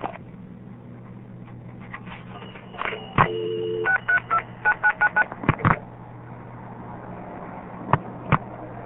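A quick series of about seven touch-tone beeps dialing a telephone number, in steady rhythm over a low background hum, with a few sharp clicks before and after the digits.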